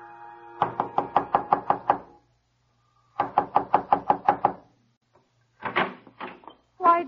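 knocking on a door

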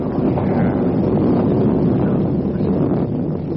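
thunder

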